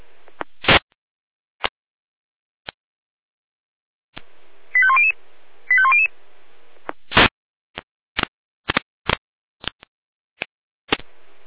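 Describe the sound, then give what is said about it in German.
Fire brigade radio alerting tones from the Jena dispatch centre, alerting to a building fire at Hintergasse 27 in Bürgel at 20:30: two short runs of stepped electronic beeps, framed by sharp radio clicks and static bursts before and after, with no voices. “Hier Leitstelle Jena mit Alarmierung DTS SHK, Bürgel, Hintergasse 27, Brandgebäude.”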